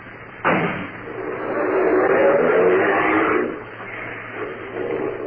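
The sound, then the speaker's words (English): A car door slams shut, then an engine revs as the car pulls away to be taken back to the station, its rumble swelling for a few seconds before fading. No one speaks. “Take the car back to the station, Fred.”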